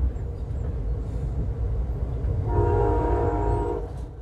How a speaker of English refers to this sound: As I watch the California coastline pass by from the comfort of my train seat, remembering Bell's comments made the million-dollar views of the water on a gorgeous morning a lot more unsettling.